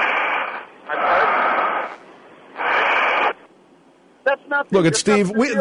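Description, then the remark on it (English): Three loud, drawn-out breaths rasp through a narrow, tinny telephone line, each lasting about a second, followed by a brief burst of voiced, wavering vocal sounds near the end. “That's breathing into a phone.”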